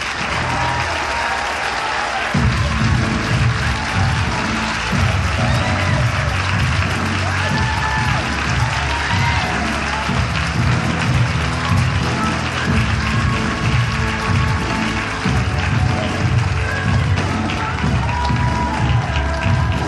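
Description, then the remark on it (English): Loud, sustained audience applause welcomes a female speaker, a dense wash of clapping with scattered cheers, swelling after a quieter opening couple of seconds and continuing steadily throughout. “Please help me give a big warm welcome to someone who pours love, leadership, and learning into everything she does, my amazing grandmother,”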